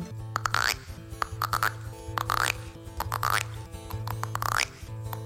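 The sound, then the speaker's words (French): A voice imitates frog calls: about six rhythmic croaks, each a buzzy burst ending in a springy upward-rising twang, repeated at a steady pace over a constant low hum. “Eh bien, ce petit garçon, il s'assoit sur un tronc d'arbre et il écoute les grenouilles.”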